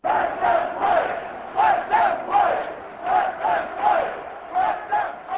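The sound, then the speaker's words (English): A large baseball stadium crowd at Miller Park, in the middle of the 11th inning, chants "Let them play" in a steady, rhythmic cadence, many voices rising and falling together in repeated loud bursts, with a continuous roar of booing underneath. “Many fans booed, while others chanted, "Let them play."”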